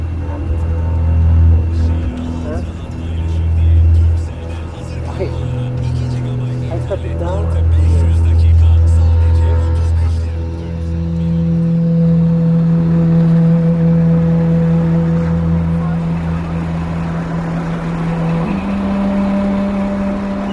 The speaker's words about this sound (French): On va s'éloigner, il y a des bus qui arrivent de partout. Et dans cette gare routière de la ville d'Izmir, les bus venus du sud de la Turquie débarquent un flot ininterrompu de réfugiés